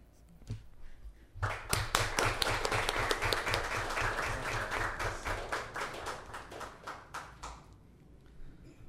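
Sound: audience applause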